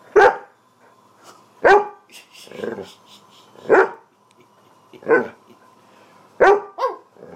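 dog barking

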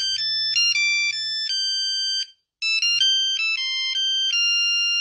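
mobile phone ringtone playing

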